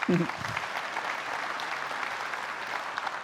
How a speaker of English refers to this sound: And can I just say, I love being part of a church that claps about being generous. I mean, I just think you all are beautiful.